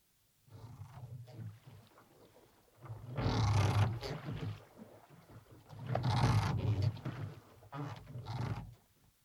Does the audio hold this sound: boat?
yes